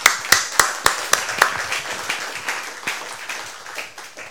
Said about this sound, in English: And I'm very pleased to say that in the room we have a relative of Arthur Jackson. Yes. So let's a round of applause for Arthur Jackson.